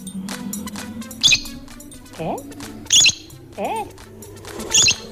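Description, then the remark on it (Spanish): Bright, high bird chirps burst out roughly every couple of seconds, alternating with lower rising squeaky calls, all over a steady murmur of background sound. “Mira cuando escuchas el pajarito.”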